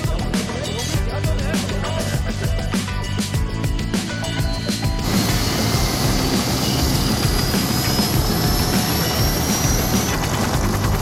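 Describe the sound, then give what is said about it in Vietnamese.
A helicopter roars loudly, its rotor thudding rapidly at first before settling into a steady, dense engine drone, with muffled voices faintly underneath. “giờ đi trực thăng ok rồi chứ?”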